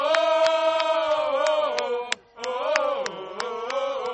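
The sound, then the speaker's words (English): A crowd cheers and yells loudly in sustained voices at a seminarians' football (soccer) tournament match, cheering for the North American College team, the Martyrs, with sharp claps or bangs cutting through, a brief drop-off partway, then the roar picks back up. “In truth, everyone is cheering for a pure game.”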